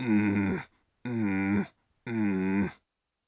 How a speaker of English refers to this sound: Again, standing tall, feel the little dancer, then a slight little growl.